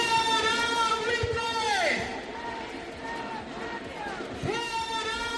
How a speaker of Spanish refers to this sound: Al grito de fuera buitres de nuestros barrios, miles de personas se congregan a esta hora en Madrid y en Barcelona, protestan contra alquileres abusivos y piden que haya una bajada del 50% en el precio de los alquileres.